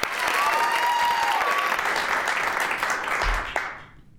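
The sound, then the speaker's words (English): An audience applauds a student introduced as a junior representing Tenalian School in Port Allsworth, a small town in southwestern Alaska. The clapping is steady, a dense, sustained wash of applause with a faint whistle early on, before it thins and fades out near the end. “Ladies and gentlemen, please give me a round of applause for”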